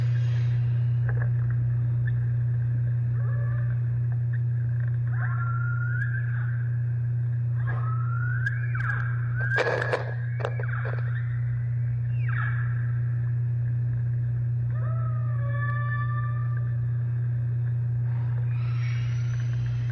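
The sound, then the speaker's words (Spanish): Humpback whale song recorded underwater: a series of wavering moans, upswept whoops and harmonic cries, spaced irregularly over a constant low droning hum, with no one speaking. “Y quiero compartirles, cuentavientes, por si nunca lo habían oído, cómo se oye una ballena.”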